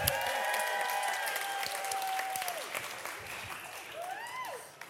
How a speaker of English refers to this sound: Give her a cheer.